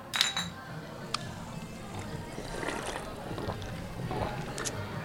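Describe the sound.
A bright glass clink rings out right at the start as highball glasses touch in a toast in a wooden restaurant with an open ceiling, followed by a couple of softer taps amid low background murmur and faint voices.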